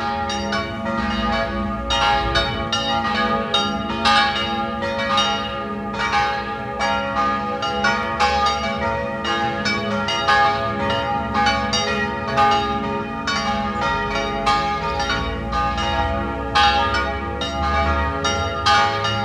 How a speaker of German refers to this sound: Sie hören die Glocken der Pfarr- und Wallfahrtskirche Kaiser Ebersdorf in Wien 11.